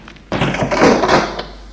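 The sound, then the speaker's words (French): A single kitchen door opens with a sudden onset and a brief rasping, creaking sweep that fades after about a second, with no talking. “La porte de la cuisine s'est ouverte.”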